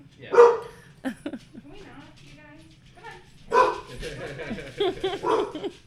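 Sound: dogs barking and whimpering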